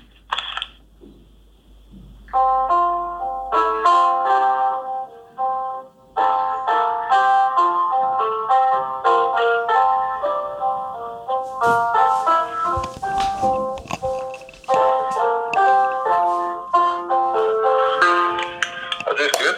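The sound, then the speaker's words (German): A piano plays a simple melody of bright, distinct notes at a steady, unhurried pace, fairly loud and unaccompanied, with brief pauses between phrases, as the player tries to play a piece whose name they cannot recall. “ich habe ein Klavier doch hier, das weißt du ja nicht”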